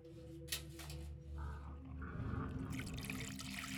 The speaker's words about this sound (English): There, we'll pour it into a cup for you.